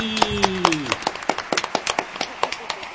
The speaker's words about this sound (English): See, even the recordings actually get a live round of applause.